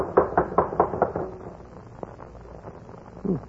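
A quick, evenly spaced run of about seven firm knocks on the door of a house, followed by quiet room tone and a brief faint vocal sound near the end.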